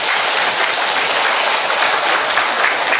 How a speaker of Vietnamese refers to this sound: Rồi, chúng ta một tràng pháo tay thật lớn thưa anh chị em.